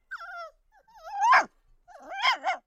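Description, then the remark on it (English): A small brown dog whimpers in high, wavering whines, then lets out a couple of sharp yappy barks mixed with whining, fairly loud, with no one talking. “But when the harper heard the queen's message, he was sad, for he had a wife and a child and a little brown dog, and he was sorry to leave them, and they were sorry to have him go.”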